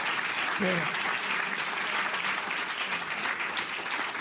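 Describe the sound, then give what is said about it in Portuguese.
Steady applause from an audience at a speech fills the whole stretch, a dense wash of clapping hands that stays loud and even as the audience plays at who claps last, with a brief voice surfacing near the start. “Vocês estão a fazer o jogo de ver quem é que bate palmas em último, não é?”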